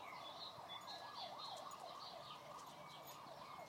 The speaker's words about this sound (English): they're there somewhere, in amongst the cacophony and the sirens.